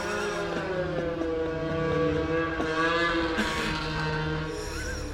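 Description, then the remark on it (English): Snowmobiles roar past, heard from a garage, with a steady, buzzing engine drone whose pitch shifts slightly as they move by, fairly loud and continuous throughout, with no voices. “Snowmobiles going by.”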